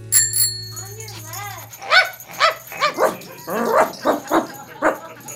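A dog, Black Francis, barks repeatedly, about eight sharp, yippy barks in an irregular rhythm, preceded by a brief ringing bell-like chime and some whiny vocal sounds.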